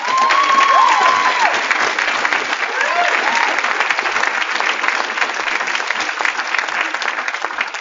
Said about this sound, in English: Please clap for yourselves again. You deserve it.